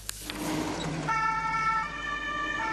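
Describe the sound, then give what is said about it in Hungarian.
The siren of the Maltese Ambulance Service's new rapid-response ambulance starts up about a second in as it sets off to a person injured in a serious accident, its steady high tones ringing loud over the low rumble of the vehicle's engine pulling away. “Egy súlyos baleset sérültjéhez indul a Máltai Mentőszolgálat új rohamkocsija.”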